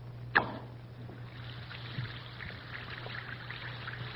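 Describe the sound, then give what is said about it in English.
A brief plop as Alka-Seltzer tablets drop into water, followed by a steady, soft fizzing hiss that continues to the end, with a low electrical hum underneath throughout. “That's Alka-Seltzer, all ready to bring relief for any one or all these troublesome, annoying ailments.”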